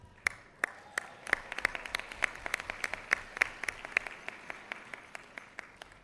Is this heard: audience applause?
yes